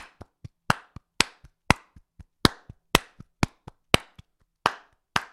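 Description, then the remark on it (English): Hands clap every beat of a steady, brisk 1-2-3-4 count, about four claps per second, accenting certain beats so some claps are noticeably louder in a repeating pattern that plays a rhythm figure. No voices. “So I'm still clapping every single one, but I'm actually playing figure four.”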